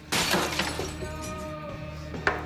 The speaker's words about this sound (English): He doesn't drink. He violently flings the glass against a wall.